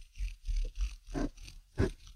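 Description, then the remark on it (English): A regular wooden pencil with non-round sides, like a Dixon Ticonderoga, rubbed quickly between palms, making a low, rhythmic rasping rumble in short repeated strokes that resembles a purr. No one speaks. “if you take a regular pencil, like one of those Dixon Ticonderogas, you know, that has like the non-rolly sides, and you rub it between your palms.”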